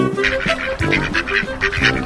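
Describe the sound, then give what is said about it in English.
A duck quacks over and over in a quick, steady series of nasal calls, fairly loud, with no one talking. “A duck made her nest under some leaves.”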